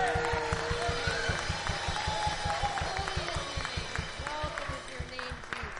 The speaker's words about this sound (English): Good morning, everybody. Let's practice that again. Let's practicing clapping unto God. Right.